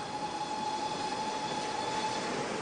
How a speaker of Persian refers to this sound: قطار مشهده؟ نه مادر، قطار تهران.